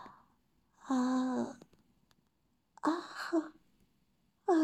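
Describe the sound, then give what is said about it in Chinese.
An audible yawn drawn out in a few voiced, wavering breaths separated by short pauses, with no talking around it. “打个哈欠。”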